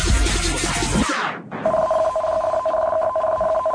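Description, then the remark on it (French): An earthquake alert rings out in a car stopped in a parking lot during an earthquake, a steady, mid-pitched electronic tone pulsing in quick regular repeats, coming in right after a burst of loud rushing noise drops away. “T'as vu, parce que t'as entendu le dring, dring, dring, dring, ça c'est...”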